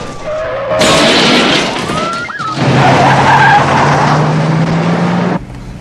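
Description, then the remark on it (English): Police cars chasing a getaway car skid with squealing tires; one spins and crashes into a pile of oil drums and rubbish with loud clattering crashes, and the other pursuing cars bash into each other, followed by a sustained engine roar and grinding noise before cutting off abruptly. “One of the police cars spins and crashes into the pile. The other pursuing cars bash into each other and come to a stop.”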